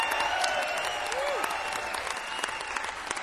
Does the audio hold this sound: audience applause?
yes